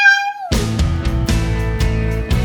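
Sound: cat meowing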